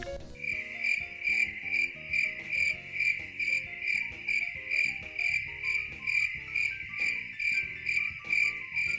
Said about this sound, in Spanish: Un paciente me dijo que le encantaba el sonido de las estrellas. Días después nos enteramos que en realidad lo que escuchaban eran grillos.